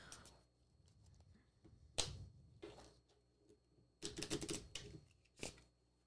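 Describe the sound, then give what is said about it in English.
Crisp, papery bursts of a deck of cards being shuffled: a sharp riffle, a longer fluttering run, then a final quick snap, with soft rustling between them and no talking. “Nice shuffle.”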